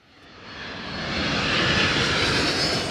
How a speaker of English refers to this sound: This is Israel's main airport near Tel Aviv, and an Air Canada jet has just landed with 18 sheep in cargo.